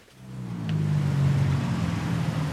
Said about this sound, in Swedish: Bilar och små motorcyklar susar förbi på Bangkoks heta gator. Solen gassar. Det här är Chai Kwang, stadsdelen som kommit att kallas Bangkoks andra Chinatown.